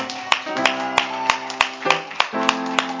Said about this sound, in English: You do clapping for yourself. Come on and give God some praise.